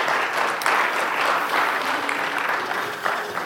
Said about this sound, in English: So just give these guys a round of applause. Thank you guys for coming up and just sharing for a minute.